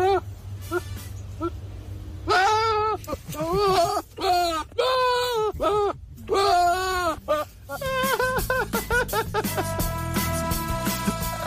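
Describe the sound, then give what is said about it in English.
A goat in a shed lets out a run of loud, quavering bleats, drawn out, eerily like a man groaning in distress, before a busier jumble of background sound takes over. “Goat sounds like Will Ferrell in distress.”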